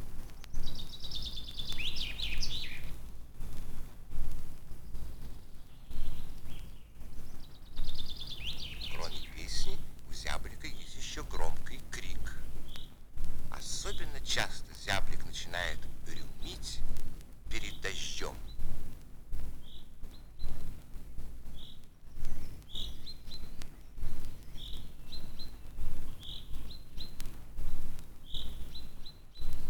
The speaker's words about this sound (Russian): Поет зяблик. Без его громкой песни не обходится ни одна роща, ни один парк. Песню зяблика можно услышать даже в большом городе.